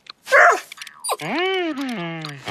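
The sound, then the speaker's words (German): A dog that has fleas and must keep scratching gives a short breathy snort, then a long, drawn-out whining yowl that rises and slowly falls, with no talking. “Oh je, Hund, du kannst ja gar nicht spielen, weil du dich so kratzen musst.”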